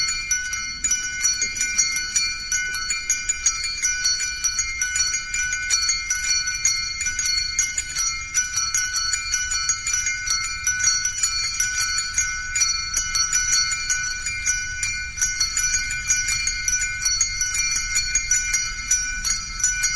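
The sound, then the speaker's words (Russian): Church bells ring a bell prayer, played in a Christmas music radio program: continuous dense, overlapping strikes, a steady shimmering peal of several bells sounding together throughout, loud, with no voices. “После этой колокольной молитвы”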